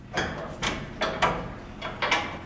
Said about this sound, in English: opens the door to his commercial fishing vessel, Endeavor, that's docked at a shipyard in Fairhaven.